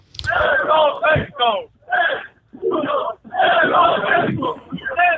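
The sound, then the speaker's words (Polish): A crowd of demonstrators shouts rhythmic chants in unison at a street rally, several loud bursts of many voices separated by short pauses. “Takie też okrzyki, które też dosyć często można tutaj na prądzie Dmowskiego usłyszeć.”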